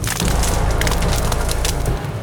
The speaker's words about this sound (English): The day wore on, and night began its descent. Soon the party heard the distinct cracking of branches.